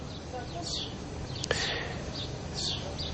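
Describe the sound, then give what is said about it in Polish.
Faint birds chirp in short, scattered bursts in the quiet of the evening, with a brief sharper click midway, all over a low, steady background hum in an otherwise quiet outdoor setting. “W ciszy wieczoru jedynie ptaki nie krępują się swoim ćwierkaniem.”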